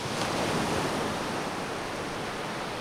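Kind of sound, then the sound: nature, ocean waves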